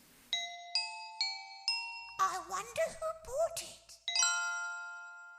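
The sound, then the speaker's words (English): A short musical jingle: four bright chime notes ring in quick succession, a brief sung or voiced phrase follows, then a final sustained chime that rings out to the end. “Another jingle.”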